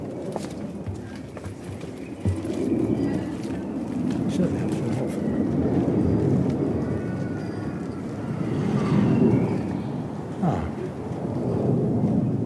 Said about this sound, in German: Ein kleines Flugzeug, das hat man immer und haben wollen.